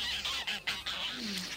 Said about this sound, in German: Gänse, hört euch das bloß an.